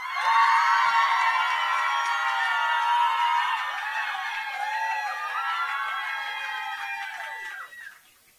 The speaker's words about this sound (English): And the band with the loudest cheer across all the heats isn't already in the final gets to go through to the final. Okay. First act. Okay, so if you think that 3 years younger should be getting a place in the final, then give us a cheer now.